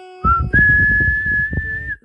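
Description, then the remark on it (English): A person whistles a movie theme tune, a clear high tone starting with a short note then holding a long sustained pitch, loud and alone, with some low rumbling underneath. “It sounds like an Ocean's 11 song.”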